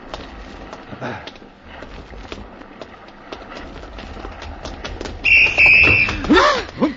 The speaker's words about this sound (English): I blew my whistle, but I guess you didn't hear it in time.